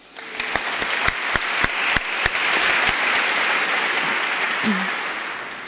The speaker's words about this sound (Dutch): Applaus.